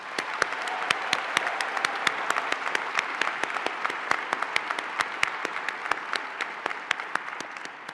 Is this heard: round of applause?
yes